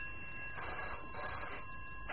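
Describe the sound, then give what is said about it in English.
A telephone at Hatch Security rings in short repeated bursts, a bright trilling tone that pulses on and off over a faint steady hum, with no voices. “Now stop wrestling with my conscience and answer that phone.”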